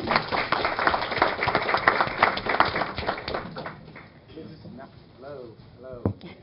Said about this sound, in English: Can we get another round of applause for the panel? We got a lot of successful people up here.